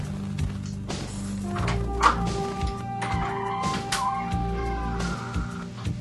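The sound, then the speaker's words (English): A weird door noise: drawn-out creaking, squealing tones wavering over a low rumble, broken by a few dull thunks and taps, steady at moderate loudness for about six seconds. “There's that weird door again.”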